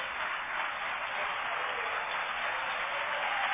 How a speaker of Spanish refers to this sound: recibiendo una grandísima ovación el maestro Morante de la Puebla a los gritos de torero, torero.